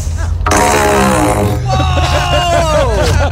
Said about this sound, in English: I have this PVC pipe, and I'm going to fart in it. She has a long, like 6 foot PVC pipe. Nice. Pointed right at the microphone.